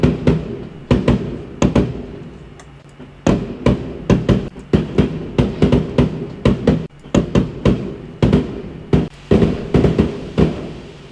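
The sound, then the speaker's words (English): A rapid, irregular barrage of fireworks bangs and crackles, recorded on a phone, with dozens of sharp loud pops bursting in quick clusters over a constant low rumble, sounding like a busy display. “Okay, I've got that on a bit with the fireworks. So hopefully you'll hear this.”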